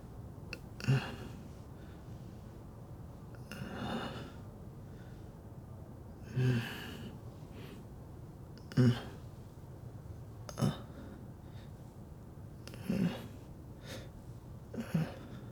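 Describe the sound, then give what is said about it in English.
Deliberate sniffs and nasal inhales, about seven in all, repeating every two seconds or so as something is held directly to the nose and breathed in, over a quiet, faintly hissing background with no talking. “If I put it directly on my nose and breathe, breathing you in.”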